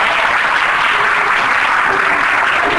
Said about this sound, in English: Give God a hand clap for praise.